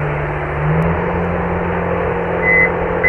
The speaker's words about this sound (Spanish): El tío está subiéndolo con una grúa. Con una grúa.